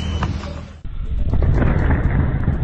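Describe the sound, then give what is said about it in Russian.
A deep, booming rumble of rockets launched from an aircraft in Kursk Oblast, Russia, loud and continuous, briefly cutting out before surging back into a sustained heavy roar with crackling texture. No one speaks. “Это ракеты полетели.”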